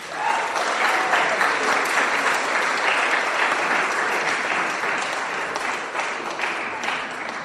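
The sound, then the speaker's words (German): A church audience breaks into sustained applause to welcome its newest member, a dense, steady wash of many hands clapping at an even loudness for several seconds, with a faint murmur of voices underneath. “Herzlich willkommen, wir heißen dich mit Applaus willkommen.”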